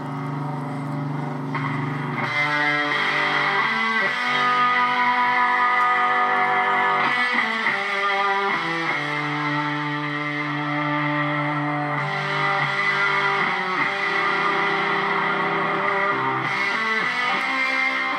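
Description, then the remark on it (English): A heavily distorted electric guitar plays a hymn live, a slow melody of long sustained notes that step from pitch to pitch, loud and continuous with a raw feel and no voices. “So that's the hymn, and with the guitar, the … feel.”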